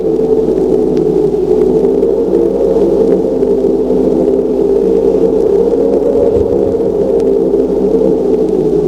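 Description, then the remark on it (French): A tank starts moving again: a loud, steady mechanical drone with groaning, creaking tones, broken by occasional sharp metallic clanks. No one speaks. “Bruit de ferraille, de grincement. Le char se remet en route.”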